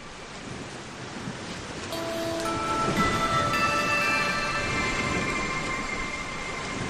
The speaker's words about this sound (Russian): Безбрежное море, сине-зеленые волны в кружевах пены, стремительные чайки и соленый ветер. Море бесконечное, словно небо.